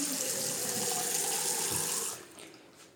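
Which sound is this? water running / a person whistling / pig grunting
water running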